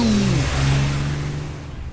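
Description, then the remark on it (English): A car engine revs hard on a winding mountain road, its loud droning pitch dipping and then holding steady under a rush of road noise for two seconds, with no voices. “These mountain roads sure are windy. Yeah, they're fun to drive.”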